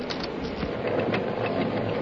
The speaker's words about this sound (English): suddenly he detected another sound, a sound he could hardly believe. Why, here's a stamping mill, running wide open.